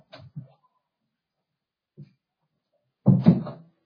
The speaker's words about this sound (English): One moment, my door's open. I got to close it real fast because I can hear the kids coming. Noise coming in.